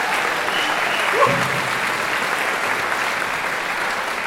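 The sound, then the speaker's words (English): A crowd applauds a band after it plays a tough tune, a dense, even wash of applause that holds at a constant level for the whole stretch, with a brief muffled sound briefly rising above it near the start. “Save your applause.”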